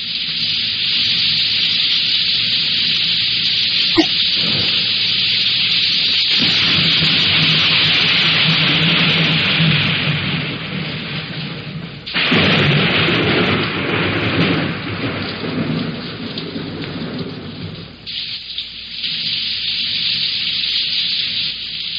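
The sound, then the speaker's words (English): Steady, heavy rain hisses without pause while deep thunder rolls and rumbles beneath it, swelling louder partway through. No voices, just the constant downpour. “there's rain.”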